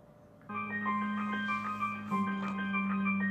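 A hip-hop beat kicks in after a brief moment, with a bright, chiming synth melody over a sustained bass line and light rhythmic hits, playing loud and close with no vocals.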